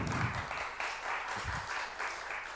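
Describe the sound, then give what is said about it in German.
A crowd at the closing event of the IGA applauds steadily, a dense, even wash of many hands clapping with a few brief low thumps underneath, sustained without pause. “Und dieser Applaus gilt definitiv allen Leuten, die ich gerade erwähnt habe und allen Leuten, die ich hier möglicherweise in der kurzen Vorbereitungszeit vergessen habe.”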